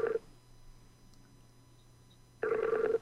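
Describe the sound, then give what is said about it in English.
A phone line's ringback tone as a call connects: a steady electronic buzz that cuts off briefly, leaves a quiet gap with faint low hum, then starts again, loud, with no voices. “They're connecting. They're ringing.”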